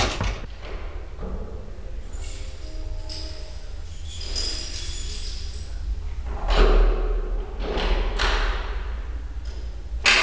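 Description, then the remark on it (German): Scraping and rattling of tools working an apartment door lock, with small metallic clicks and a few heavier knocks and thuds as the mechanism is worked, no voices. “Er zog Werkzeug aus der Tasche seiner schwarzen Lederjacke und machte sich am Schloss zu schaffen.”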